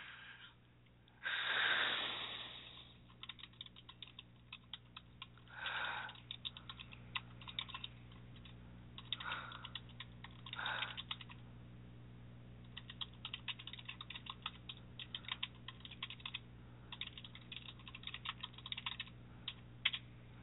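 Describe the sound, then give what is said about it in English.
Rapid, forceful typing of a reply in a chat window on a computer keyboard, dense clusters of sharp key clicks with a few short pauses, fairly quiet over a steady low hum. There is no talking. “I'm going to go ahead and type in a reply real quick, so you are going to hear some angry typing.”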